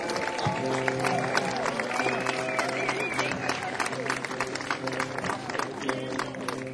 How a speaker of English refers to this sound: Some of you may have noticed the workshop stage crew works nonstop to make all these changes happen. I'd like a little thunderous round of applause for them.